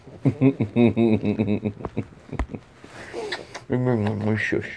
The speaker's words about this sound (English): Shush, puppy.